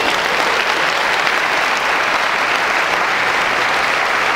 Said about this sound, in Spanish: Esa semana tuvimos récord de producción en el equipo. ¿Valdría la pena un aplauso? ¿Sí o sí?